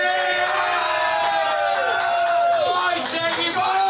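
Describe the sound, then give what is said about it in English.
An audience at a live show bursts into sustained cheering and clapping for a guest joining the show, with loud whoops and high-pitched shouts rising over a dense wash of applause that carries on steadily for several seconds. “A round of applause”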